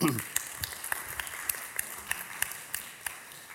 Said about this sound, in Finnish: Kiitoksia. Loistavaa. Ja vielä aplodit.